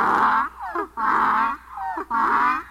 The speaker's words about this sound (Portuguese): O jegue estava no portão, quis me pegar. Quando me viu, foi murchando as orelhas, mostrando o dente e começou a relinchar.